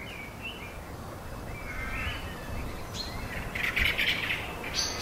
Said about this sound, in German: Am Ende der Vernichtung steht das Licht, das Leben, symbolisiert durch die Bäume und die Vögel, die man zwitschern hört.